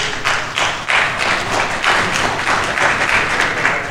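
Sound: audience clapping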